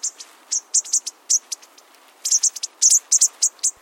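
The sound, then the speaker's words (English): A bushtit flock gives soft, high, thin contact calls: quick twittering chips scattered irregularly, some in short clustered runs, without any talking. “Their quiet calling helps them keep track of one another.”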